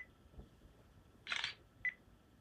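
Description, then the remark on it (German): A camera shutter clicks once as a whole document page is photographed after a tap in the middle of the page, a short bright synthetic snap, followed a moment later by a brief high electronic beep. No one speaks; the background is otherwise quiet. “Jetzt habe ich mitten auf die Seite getippt und jetzt hat er die ganze Seite fotografiert.”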